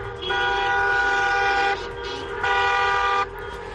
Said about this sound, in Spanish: El de los claxon de familias, de los coches donde estaban los docentes de las escuelas concertadas, esas familias, los niños y demás agentes de la educación que han formado parte de esa marea naranja pidiendo libertad de elección en la educación